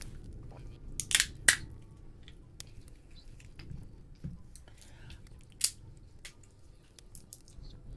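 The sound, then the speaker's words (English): Crunching and chewing of hard pistachio nuts, with a few sharp cracks standing out among softer irregular mouth sounds over a low background rumble. “I have had a bad run with pistachios.”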